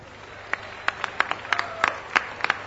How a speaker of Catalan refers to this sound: Benvinguts a la Festa Major de Ripollet 2006. Un fort aplaudiment per la festa.